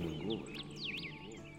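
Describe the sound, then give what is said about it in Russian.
Quiet bird song, a few high swooping chirps and trills rising and falling, heard over soft, steady low background music, calm. “И слышны голоса птиц.”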